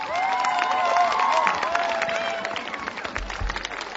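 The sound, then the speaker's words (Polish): A crowd in Częstochowa, Poland applauds to welcome a speaker, with dense, steady clapping, while high cheers and whoops rise above it early on. The clapping continues for about four seconds, thinning slightly toward the end. “Gorące brawa!”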